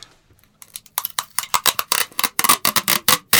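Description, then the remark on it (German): Tesafilm adhesive tape being pulled off a tape roller in a quick series of crackling, rasping bursts that start faintly and grow louder and steadier, with no voices. “Ja, du rollst Tesafilm von diesem Tesafilm ab, Roller ab.”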